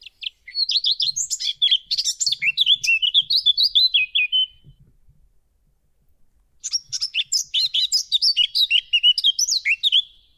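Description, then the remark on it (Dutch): A blackcap sings two bright, warbling phrases of rapid high notes, the first around four seconds long, then a pause of quiet before the second burst. Clear, no voices. “om zijn verhaal achter de geluidsopname van de zwartkop te horen”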